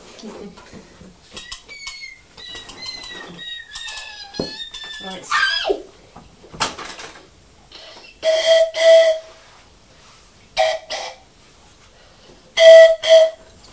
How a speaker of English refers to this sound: That's a real whistle, isn't it?